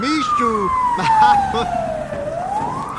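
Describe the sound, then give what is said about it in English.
Fire truck sirens heading towards Sim Lane in Simsville, from a fan-made audio drama inspired by The Sims: a siren wails loudly, its pitch sliding steadily down and then starting to climb again, with faint traffic rumble beneath it. “Those fire trucks appear to be heading towards Sim Lane.”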